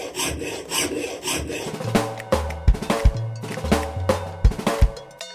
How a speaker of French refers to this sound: C'était une scie.